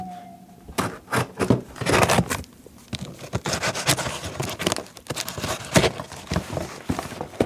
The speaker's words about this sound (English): You want to wield the ceremonial blue scissors? Special blue scissors. Yes, yes, I do. Here you are.